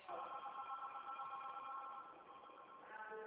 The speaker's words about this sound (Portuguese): Deixa eu te dar um toque do meu celular, calma aí.